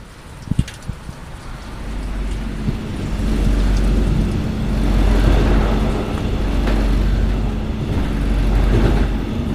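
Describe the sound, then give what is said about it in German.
A car pulls away after a brief click, its low engine rumble swelling and holding as it accelerates, setting off on the drive to Lübeck, Germany, with a steady wash of road noise and no voices. “Und ich würde sagen, ich fahre jetzt einfach mal los und wir hören uns dann später in Lübeck wieder”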